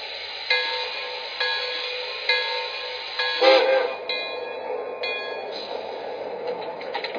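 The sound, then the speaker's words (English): A passenger train, number 28, idles at a station platform on track one, a steady mechanical hum with faint tonal whine, regular soft clicks about once a second, and a brief louder hiss of air partway through. “Chicago on track one, train number 28, the Broadway Limited.”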